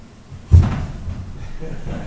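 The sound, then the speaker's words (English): A chair is jostled and shifted as it is tested before sitting, giving one solid wooden thump followed by a brief low rumble as it settles, with faint room murmur underneath. “None of you checked out your chairs.”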